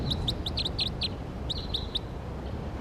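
bird calling loudly

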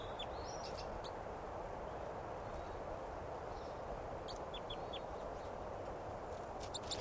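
wild bird chittering

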